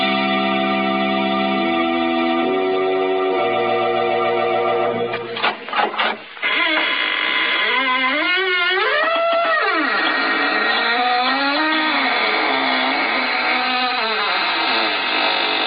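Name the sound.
squeaking door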